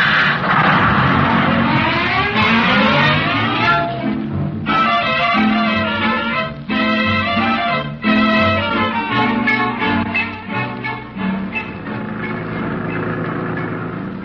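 A loud bus engine revs up, its whine rising in pitch over several seconds, then settles into a throbbing drone with repeated surges and gear-change dips as the vehicle pulls away.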